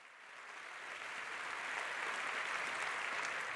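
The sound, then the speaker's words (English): A crowd applauds steadily, a dense wash of many hands clapping that swells slightly in the first second and then holds at an even, continuous level without any voices. “Let's have a round of applause for him.”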